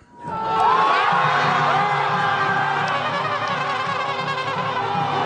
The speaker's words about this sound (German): Das, was sich anhört wie der Jubel bei einem Fußballspiel, ist die Freude über den Moment, der das vorläufige Ende einer beispiellosen politischen Krise in Südkorea markiert.